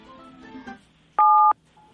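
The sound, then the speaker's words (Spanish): A single telephone keypad button tone sounds once as a caller presses a number on her phone, a loud, steady dual-pitched beep lasting about a third of a second, with faint background voices before and after it. “pinche un número en su teléfono.”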